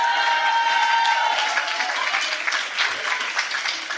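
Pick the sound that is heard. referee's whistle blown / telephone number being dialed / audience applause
audience applause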